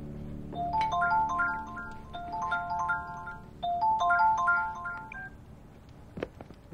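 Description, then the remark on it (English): A melodic phone ringtone for an incoming call plays a bright, stepping tune that repeats about twice, then cuts off as the call is declined, followed by a brief soft clatter near the end. “Ella receives a call from Edward but declines it.”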